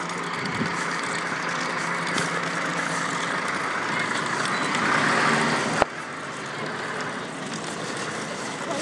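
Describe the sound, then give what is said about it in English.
Cars drive past on an icy, slippery road in a steady, broad roar of tyres and engines that swells slightly before a sharp click cuts in, then the traffic hum carries on without any voices. “And the trouble is the cars aren't being cautious.”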